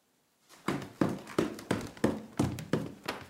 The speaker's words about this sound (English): She knocked loudly on Paul's door, which was never locked.